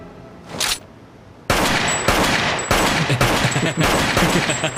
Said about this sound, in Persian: اینقدر به جنازه ها شلیک نکن.